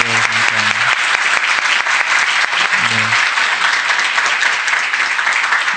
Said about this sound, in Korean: 예, 잠깐 일어나시면 우리가 한번 예, 격려의 박수 한번 부탁드리겠습니다.